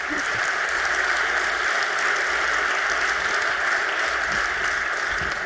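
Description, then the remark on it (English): Steady, dense applause from an audience welcoming a speaker for his talk on functional programming, a continuous wash of many hands clapping at an even level throughout, with no voices standing out above it. “One tiny thing you might not know about him is that 1986, he won a federal competition on IT, and so give him a warm applause for that and also for his talk.”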